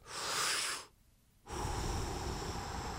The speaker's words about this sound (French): Grande respiration.